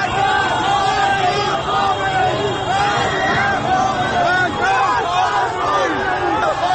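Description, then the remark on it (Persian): A large crowd, including protesters against the 2009 (1388) election result among Ashura mourners on Azadi Street at Jeyhun, suddenly shouts and yells at once as it moves toward the main street, many overlapping voices forming a loud, dense roar that stays steady, with individual cries rising and falling inside the mass. “جمعیت ناگهان صدای فریادش بلند میشود و به سمت خیابان اصلی حرکت میکند.”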